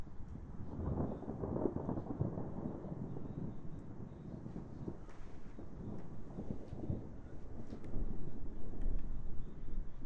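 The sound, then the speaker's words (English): Thunder rumbles steadily through a storm, a deep rolling roar with wind buffeting the microphone, swelling louder toward the end. No one speaks. “Come on, do your worst, Mr. Thunder. Give us some real cracks.”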